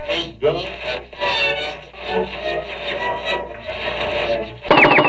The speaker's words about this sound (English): And, oh, static. You know what that means, static. Oh, here it comes.